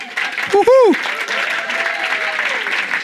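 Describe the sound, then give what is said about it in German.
Brief audience applause for the drummer, a dense crackle of clapping that holds steady at moderate loudness, with a short rising-and-falling cheer or whoop near the start. “Ja, und sie hat ja einen kleinen Applaus für unsere Schlagzeugerin.”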